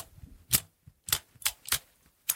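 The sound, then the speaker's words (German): Five sharp metallic clicks at an uneven pace, like the plates of an armored gauntlet snapping together the way scissor blades do, with quiet rustling between them and no talking. The gauntlet is a fabric glove with armor plates on each finger, looking like pangolin scales. “Und das hört sich an, als wäre ich eine Schere.”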